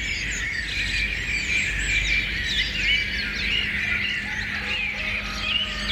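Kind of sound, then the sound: bird, birdsong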